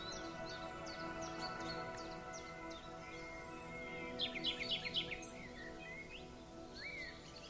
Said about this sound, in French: Le sentier réapparaît. Et vous marchez de nouveau dans le sous-bois, agréable, accompagné du chant des oiseaux.